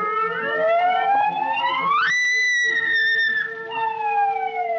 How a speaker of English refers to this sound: I remembered the prison siren at the State Farm.